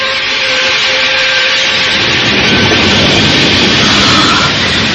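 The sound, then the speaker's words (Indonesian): A waterfall covering the mouth of a cave roars in a loud, steady, unbroken wash of rushing water that holds the same full hiss throughout, with no voices. “Air terjun itu muncul kembali menutupi gua ini.”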